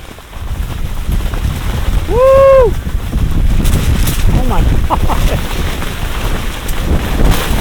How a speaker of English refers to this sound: Oh man, here it comes. Yep, I feel some rain.